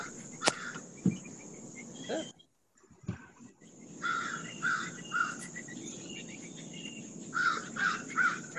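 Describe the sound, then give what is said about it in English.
Repeated harsh crow caws sound in a loose series, over a steady insect-like hum and faint background rustling, with a brief silent gap early on. “Birds. Sounds pretty.”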